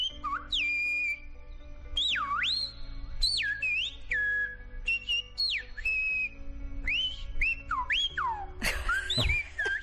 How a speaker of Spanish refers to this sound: Bueno, pues el príncipe dice silba alto, que se escuche, que hoy 30 de septiembre es el noveno aniversario del silbo gomero como patrimonio de la humanidad.